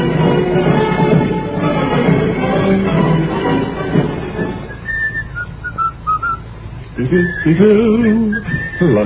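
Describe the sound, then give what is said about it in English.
Someone whistles a lively march tune, clear, its notes coming in a brisk, steady rhythm after a dense, busy stretch of background sound at the start. “Every now and then we take a survey to see how many people are whistling marches on the street.”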